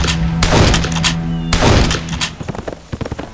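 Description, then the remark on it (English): Scratch fires his rifle: two loud, sharp rifle shots ring out about a second apart, each leaving a booming, echoing tail, followed by a few softer clattering knocks as the sound dies away. “Nearby, Scratch blasted his rifle.”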